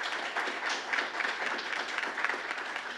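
An audience applauds steadily, many hands clapping at once into a dense, crackling wash of sound that holds an even level throughout with no voices over it.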